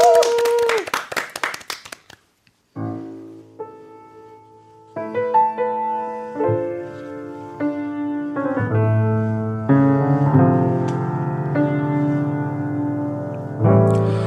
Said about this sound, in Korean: 자, 박수로 청해 드릴게요.